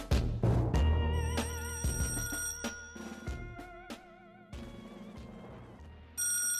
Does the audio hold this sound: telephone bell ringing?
yes